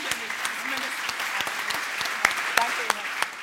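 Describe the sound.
Steady applause from a crowd for the new German Federal Minister for Family Affairs, a dense patter of many hands clapping with a few sharper, louder claps standing out now and then. Faint murmuring voices sit underneath.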